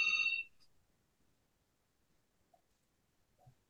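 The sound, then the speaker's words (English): A phone gives one short, bright electronic ring at the very start, then cuts off, leaving near silence with only a couple of faint soft clicks. “I'm going to ignore the phone.”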